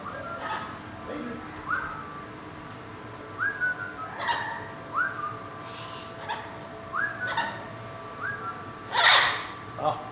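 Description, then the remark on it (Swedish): Parrots sitting up along the edge inside a zoo animal house call with a string of short, rising whistled notes repeated every second or so, ending in a louder, harsher squawk over a faint steady background hum. “Vad som låter här inne är papegojorna.”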